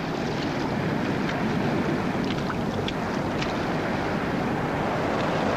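Steady wind rushes over open water while a small boat with two people huddled together drifts in swirling morning fog, with faint lapping and occasional soft creaks; a constant, enveloping outdoor wash without voices.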